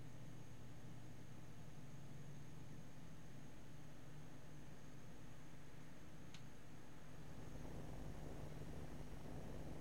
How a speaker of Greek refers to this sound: Καθώς ο κύκλος των βρώμικων άθλιων λαθροβίων με το πεινασμένο βλέμμα άρχισε να κλείνει διστακτικά, βήμα-βήμα γύρω από το ελικόπτερο, ενώ οι έλικες του γύριζαν αργά και πάλλονταν από πάνω τους σαν μια επιβλητική μουσική υπόκρουση.